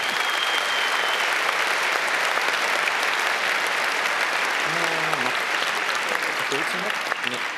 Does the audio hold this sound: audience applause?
yes